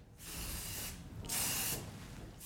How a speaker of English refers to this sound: Right, here's this. Spray. Mind yourself, because you're going to be covered in it.